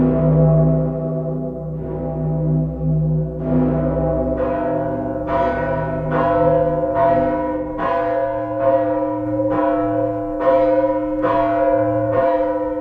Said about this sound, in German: Die Petersglocke des Kölner Doms, die größte freischwingende Glocke der Welt. Sie wiegt 24.000 Kilo. Deshalb auch der dicke Peter genannt. Oder Kölsch, der Decke Pitter.